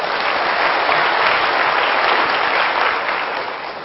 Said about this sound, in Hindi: भाई मेरी अलौकिक मां के लिए तालियां तो बजाइए।